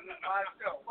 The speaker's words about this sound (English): That was just a phone call.